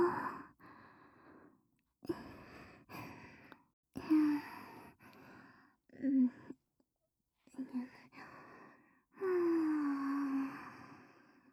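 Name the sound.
heavy panting breaths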